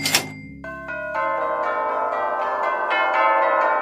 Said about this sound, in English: And all the bells of the tills of the town shall ring for our wedding.